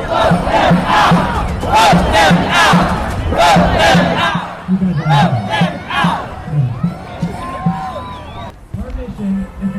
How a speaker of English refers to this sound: Crowd is yelling, throw him out.